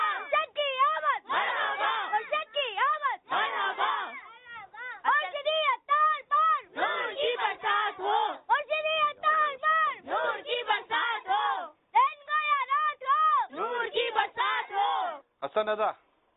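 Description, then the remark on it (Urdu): A group of children loudly chants an Urdu welcome slogan ("... ki aamad marhaba", greeting a boy's and his papa's arrival) in rhythmic, repeated shouted bursts with brief pauses between phrases, their high voices blending into one energetic crowd. “چلے بھائی کیا نعرہ لگائیں گے”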